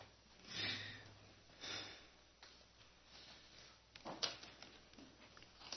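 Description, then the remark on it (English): A few rough, breathy coughs from one person, spaced out with wheezy breaths and sniffs between them, fairly quiet, with no talking. “I've heard some coughing.”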